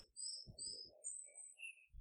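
Soft bursts of rustling and scratching in dry leaf litter nearby as a blackbird hops among twigs, leaves and tufts of moss, digging its orange bill into the litter in search of food; a cluster, a short pause, then another burst, with thin bird calls and song in the background.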